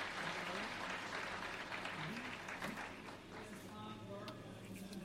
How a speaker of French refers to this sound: Nous allons les applaudir. Ils sont là au fond de la salle.